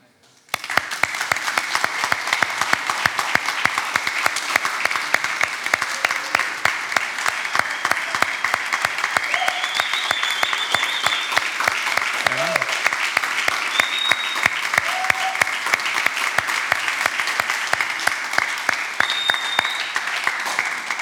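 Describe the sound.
A large crowd claps steadily for about twenty seconds in applause for God, a dense, sustained applause at an even level, with a few faint cheers or voices mixed in.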